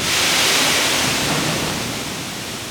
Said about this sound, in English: Part grain elevator, part train station. A few times a month, a locomotive jumps onto a track that loops around WGM's giant grain bins. The train lurches forward every few minutes, filling each car with a waterfall of corn.